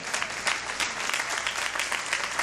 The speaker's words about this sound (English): Oh, the hand claps gone thin because some folks think they got it mastered.